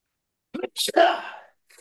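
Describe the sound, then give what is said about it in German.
A single sneeze, moderately loud: a couple of short catching breaths, then a sharp, hissy burst that trails off over about half a second. A faint sound follows briefly. “Ich glaube, da kommt gleich ein Nieser.”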